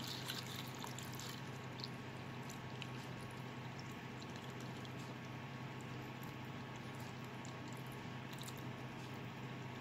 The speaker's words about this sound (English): So we're going to pop it into this jar, and then I'm going to cover it with my simple sugar syrup. And now that's in the jar, I'm going to pour in my simple sugar syrup.